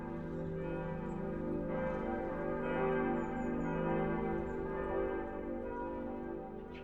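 A church bell rings with a rich, sustained tone, its layered overtones swelling and lingering continuously without pause, loud and resonant.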